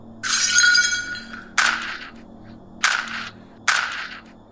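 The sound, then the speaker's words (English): Glass shatters in a long, bright crash with ringing shards, followed by three sharp, loud cracks of gunfire spaced about a second apart. No voices are heard. “His commentary was droned out by a hail of gunfire and glass breaking.”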